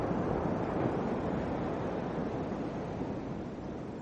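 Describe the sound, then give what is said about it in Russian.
A steady, loud roar of howling wind and churning waves in a storm at sea, with rain lashing a rocking ship's deck, fills the scene without pause, a dense rushing noise that holds evenly throughout and eases only slightly near the end. “Вы слышите отчетливо вой ветра.”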